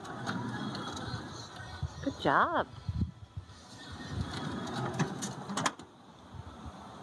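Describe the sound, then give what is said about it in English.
A teenage boy in the back seat of a van rolls its sliding door open and then shuts it with a clunk, with a mechanical rumble, while a person speaks briefly and a high whistling tone rises and falls in the middle. “He pauses, then opens and closes the door again.”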